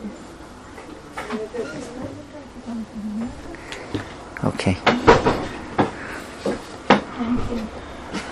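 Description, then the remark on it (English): A door is pushed shut with a cluster of clicks and thuds from the latch and frame, while people talk quietly in the room. “Should I close the door? Yeah, I guess so.”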